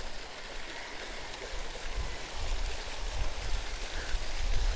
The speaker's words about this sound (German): Da gibt es noch zwei, die füllen Gießwasser ab.